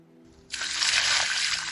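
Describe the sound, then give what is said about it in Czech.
After a brief quiet moment, a loud splash of cold water thrown from an old tin bucket onto a person bursts in abruptly and keeps gushing and sloshing steadily to the end, with no voices. “Oblila mě studená voda.”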